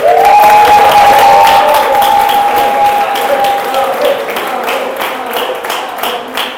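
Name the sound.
applause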